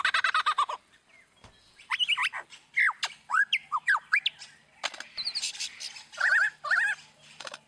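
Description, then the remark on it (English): A mimic bird rapidly runs through a series of varied squawks, harsh rattles and looping whistled calls, imitating different sounds rather than a call of its own. Loud and jumbled, with brief gaps between bursts and no talking. “So that is a bird that's just a mimic, and it just mimics different sounds.”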